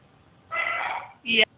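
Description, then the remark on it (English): A dog in the background of an online conversation gives two quick vocal bursts: a rough, half-second bark or whine, then a brief, sharp, higher yelp, both fairly loud over a low steady hum. “Your dog as well.”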